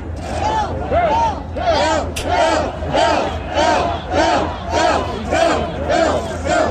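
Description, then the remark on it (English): A rowdy, drunk crowd in Punxsutawney at about 3 o'clock in the morning, in the dark, awaiting Phil's emergence from his burrow, cheers and chants in loud, rhythmic bursts, about ten swells of many voices rising and falling at a steady pace over a constant din of babble. “But listen to the rabble. This is at 3 o'clock in the morning as they await the arrival of Phil out of his burrow.”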